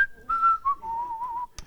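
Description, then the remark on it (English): Someone whistles a short, cheerful tune while working in a yard, a few clear notes sliding from one pitch to the next, followed by a brief click at the end. “And so as I'm doing it, I'm whistling a merry tune.”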